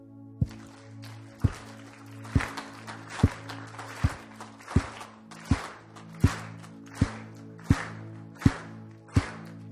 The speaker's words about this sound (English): Clapping engages our senses. It creates a beat, and I'm glad that we got there, all on the same beat. A drumbeat of warfare that draws us together in unity.